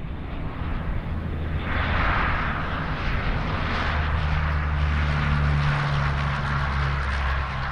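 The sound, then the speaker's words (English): A small airplane's engine drones steadily and loudly at the Eugene Airport, its propeller hum swelling and shifting as the aircraft passes, with a broad rumble of airport ambience underneath and no voices. “He's a flight instructor at Lane Community College, a job that often takes him here to the Eugene Airport.”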